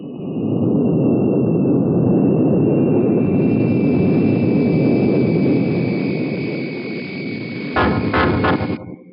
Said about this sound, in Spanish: El jet Albatros asciende y se pierde en los cielos de Alemania.